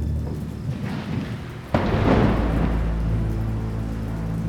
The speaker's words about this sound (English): A crack of thunder boomed above them, and heavy rain began to pelt the lake.